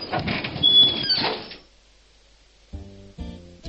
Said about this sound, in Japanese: しばらくするとまた玄関のチャイムが鳴った。その時皆の動きが止まった。皆も次に来る人が気になるらしい。そしてドアが開いた。